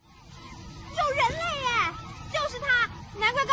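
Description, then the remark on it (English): High, lively young children's voices chatter and squeal in short bursts over a steady low rumble of background noise, their pitch sliding up and down playfully. “And the little munchkin noises in the background as well.”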